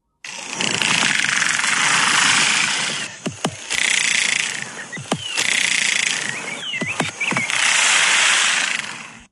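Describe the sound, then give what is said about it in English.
Someone taps by hand on a piece of wood, and many soldier termites inside it bang their heads against the wood as a defense, making a loud, dense, buzzing rattle that churns on almost continuously, broken by a few brief lulls and sharp clicks, with no voices. “You'll hear someone tap on the wood with their hand, and then you'll hear like that rattling noise, and that's the termites banging their heads against the wood.”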